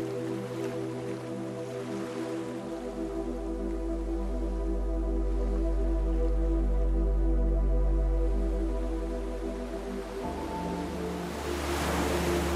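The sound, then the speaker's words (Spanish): Ocean waves wash toward the shore, swelling slowly and fading, beneath a steady, soft ambient music drone with sustained tones. No voices are heard. “Caminas lentamente hacia la orilla.”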